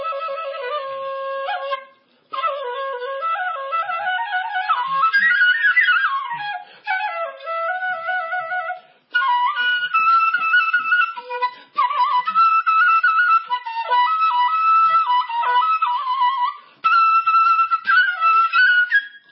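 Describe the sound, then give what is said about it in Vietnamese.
A solo Vietnamese bamboo flute (sáo) plays a flowing melody, clear, with bending pitch slides and ornamented notes in several phrases separated by brief pauses; no one speaks. “Kính thưa quý vị, chúng ta không còn thời gian để nghe tiếng sáo”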